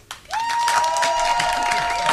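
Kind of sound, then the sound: crowd, loud applause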